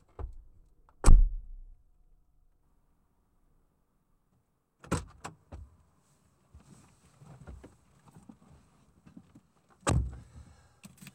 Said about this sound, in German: So, wenn Sie bitte einsteigen wollen. Geht schon, ich mach die Tür zu.